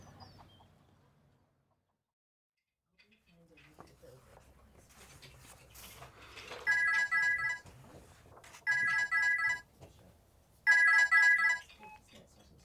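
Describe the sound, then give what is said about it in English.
A telephone rings three times in loud, evenly spaced electronic bursts, each trill lasting about a second, over a low, busy background of murmuring sounds. “Hello, Helen's phone.”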